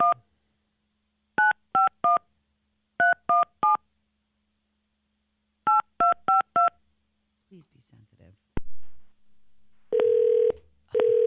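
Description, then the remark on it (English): Touch-tone keypad beeps dial a number in quick bursts of three and four, a caller posing as a florist phoning a man. A brief spoken phrase follows, then a steady, buzzy ringing tone starts on the line. “Ringing.”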